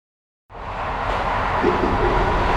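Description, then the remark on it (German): After a brief silence, a steady, broad rumble inside a moving Deutsche Bahn train approaching Köln fades in and holds at an even level, with no voices present. “Du hörst eine Durchsage im Zug.”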